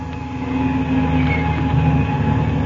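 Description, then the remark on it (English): A propeller airplane engine roars into a steady, loud drone, with a low rumbling hum and layered droning tones that hold even throughout, no voices over it. “I've got to start this engine first. Come on, Slim. Now, look out for that air propeller.”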